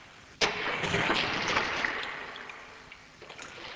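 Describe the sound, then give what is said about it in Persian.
A well pulley with a rope creaks and grinds as a bucket of water is hauled up from a well, starting abruptly with a loud rasping squeal that carries on steadily and slowly fades. No voices. “آواز قرقره رو همونطور تو گوشم داشتم و تو آب که هنوز میلرزید لرزش خورشید رو دیدم.”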